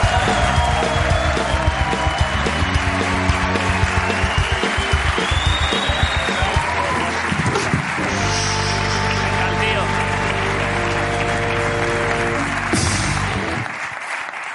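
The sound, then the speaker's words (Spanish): An audience applauds loudly and steadily for violinist Ara Malikian, a dense clatter of clapping with a band playing a bright, sustained tune over it, everything cutting off near the end. “Ara Malikian, un aplauso para él.”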